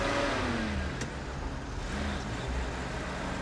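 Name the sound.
car engine driving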